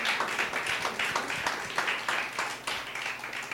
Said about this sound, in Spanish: Dale, dale, dale, dale el aplauso al Señor.